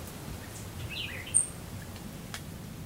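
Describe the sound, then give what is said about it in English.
A few faint, brief bird chirps over a steady outdoor hiss, with one sharper high whistle near the middle, heard through open car windows while driving west from Miami toward Everglades National Park. The calls are sparse, with no talking. “The air softens as the sounds emerging from the open windows change from beeping horns to birds.”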